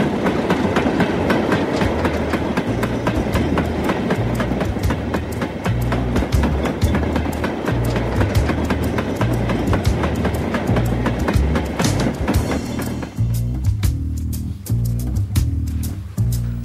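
A train rolls steadily along the rails, its wheels beating out a loud, rhythmic clickety-clack over a deep continuous rumble, with no voices. Near the end the rumble grows lower and heavier.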